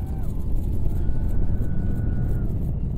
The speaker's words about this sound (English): As the engines ignited, fire and smoke billowed from underneath the Starhopper as it braced for liftoff.